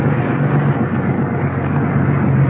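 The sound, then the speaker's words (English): A white car's engine and road noise rumble steadily and loudly as the first car is sent through, a constant low drone with a humming undertone that holds its level throughout, no voices present. “Send the first car through.”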